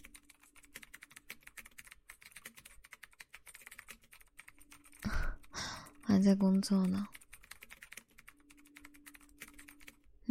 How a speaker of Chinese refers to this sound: 没听到我敲键盘的声音吗？没啊，在家里呢，不在公司啊。还剩了点文件没看完，就带回家里来了。